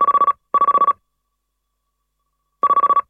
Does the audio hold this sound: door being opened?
no